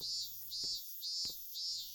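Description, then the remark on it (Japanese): A shrill, high-pitched cicada drone swells and fades in regular pulses about every half second, droning on steadily with no voices present. “できれば一緒になるのはこんなセミのうるさくない日が良かったけど、この鳴き声聞いてるだけでどんどん体力奪われてく感じがする。”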